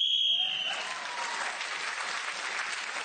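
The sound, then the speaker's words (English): A game show whistle blows to end Clement Freud's turn on the subject 'the perfect picnic': a shrill, steady blast for about half a second, then a burst of sustained applause from an audience. “Speaker's whistle went, has moved forward.”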